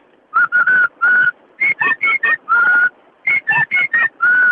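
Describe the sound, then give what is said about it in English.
A person whistles an imitation of the call of a bird that sits at the top of the trees in Bulang and wakes people in the morning: three loud phrases of quick, clipped notes, each ending in a longer held tone, with short pauses between the phrases. “I know it does, but it's a bird that sits at the top of the trees in Bulang where we live, and it always wakes us up in the morning.”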